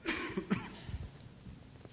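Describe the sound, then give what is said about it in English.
A person coughs a couple of times, with harsh bursts near the start and middle, then some throat-clearing rasp and quiet breathing afterward. “Hang on, I got a cough.”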